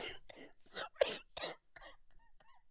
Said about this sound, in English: Mate, you're worse than me when I had my cough.